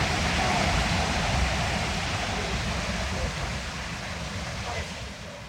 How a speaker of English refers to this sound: The weir, as you can hear, is a thunderingly loud stretch of water, so we moved slightly further down where the stream was shallow and the water was gentler.